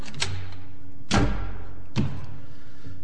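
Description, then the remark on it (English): A heavy watertight bronze door set in the base of a lighthouse on a bare black rock opening: two loud, resonant metallic thuds about a second apart, over a low steady hum, with no voices. “Set in the base of the light was a watertight bronze door.”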